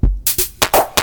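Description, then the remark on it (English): A cat walking across a synthesizer keyboard presses keys at random, giving a quick, uneven run of four or five loud, noisy electronic bursts and buzzy tones with no steady rhythm. “That's a cat on the keyboard.”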